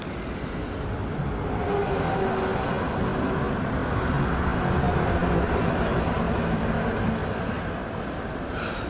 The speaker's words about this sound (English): Got sound of cars driving by, ignoring me. Waiting on AAA, which I don't have.